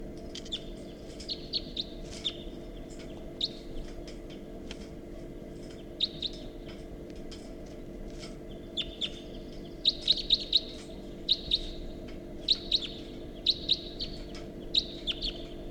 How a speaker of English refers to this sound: So recording, this is bird 354 doing very rapid flight calls.